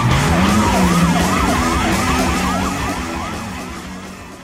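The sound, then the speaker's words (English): A car engine revs low and rises as the vehicle speeds off, while police sirens wail in rapid repeating sweeps, loud at first and gradually fading as they move away. “It also helps him focus while he's pulling off mind-blowing car stunts and speeding away from the scene of a crime.”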